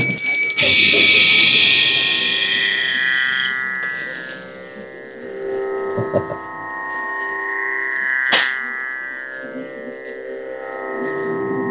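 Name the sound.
hand bell ringing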